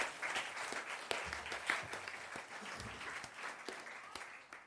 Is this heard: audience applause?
yes